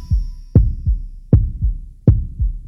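A loud heartbeat thumps in a steady lub-dub rhythm, three deep double beats with a softer second thud each time, alone with no voices.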